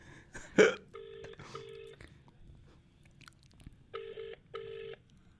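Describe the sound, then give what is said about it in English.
A phone's ringback tone plays over a loudspeaker during a call to Barry Fry, two double-ring bursts with a pause between them, slightly tinny and moderately loud, after a brief rustle at the start. “Here we go, loudspeaker. Please pick up, Big Baz.”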